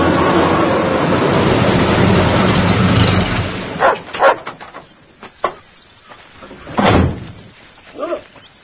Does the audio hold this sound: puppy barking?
yes